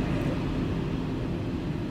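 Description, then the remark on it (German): A steady, deep rumble of an S-Bahn Ringbahn train's interior while riding, played back through four loudspeakers, continuous and fairly loud throughout with no voices or distinct events standing out. “das Publikum sitzt um diese Leute herum oder quasi in einer Form Wagen so, und vier Lautsprecher übertragen das, was man normalerweise in der S-Bahn, in der Ringbahn hören würde.”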